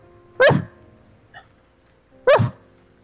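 dog barking

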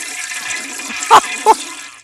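toilet flush sound effect

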